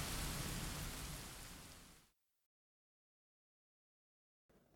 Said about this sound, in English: I'm not well. It's raining cats and dogs. What? Cats and dogs?